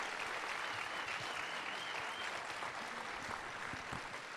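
An audience applauds steadily, a dense wash of many hands clapping at an even, fairly loud level throughout, with no speech over it.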